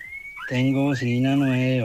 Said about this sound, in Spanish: ¡Tiene bocina nueva! ¡Qué excelente! ¡Me encantó! Agente 73 en el móvil 51 tiene bocina nueva. ¡Qué lindo, don Érico! Escucha, mire.